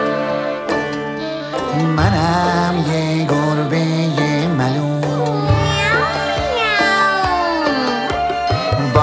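Drawn-out, meow-like sung cries from a voice imitating a cat in a Persian-language song, rising and falling over a steady, bright musical backing that plays loudly and continuously throughout.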